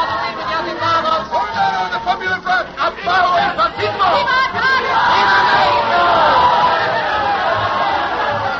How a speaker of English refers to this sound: We've arrived at the year 1934. They're cheering the new president, Cardenas, elected by the will of the majority. Viva Cardenas!